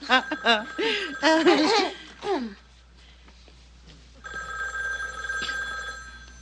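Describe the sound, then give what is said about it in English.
A voice sounds briefly at first, then after a pause a telephone bell starts ringing steadily and keeps going to the end, a sustained, fairly loud electric trill. “Well, aren't one of you going to get the phone?”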